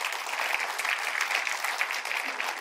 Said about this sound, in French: Ceux qui le savent, est-ce qu'on peut applaudir notre Dieu qui parle encore aujourd'hui?